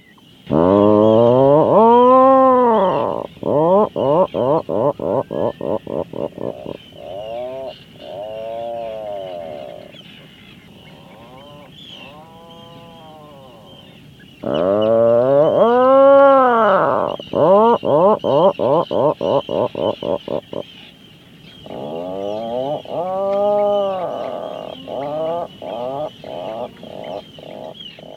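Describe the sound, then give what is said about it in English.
Atlantic puffin calls repeat in three loud bouts, each a drawn-out groaning moan that breaks into a fast, stuttering run of cackling pulses, with no talking. “Then there's the Atlantic puffin, a cute bird with a distinctly large patterned beak that communicates in its nesting colonies with creepy cackling calls.”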